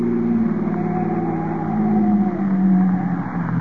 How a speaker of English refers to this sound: Here we are. I'll make a U-turn.